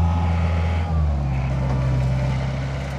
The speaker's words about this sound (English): Near a campground on the river, front-end loaders shovel fish and dump them into a large trailer.